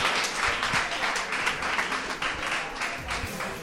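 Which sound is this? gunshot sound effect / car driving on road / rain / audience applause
audience applause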